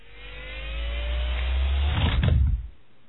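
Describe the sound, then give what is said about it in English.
The thrust engines of an X-Wing flight simulator ignite with a deep rumbling roar and a faint rising whine, swelling steadily for over two seconds before cutting off abruptly into near silence. No voices. “Kell strapped himself into his simulator seat and flipped the switches, igniting his X-Wing's ersatz thrust engines.”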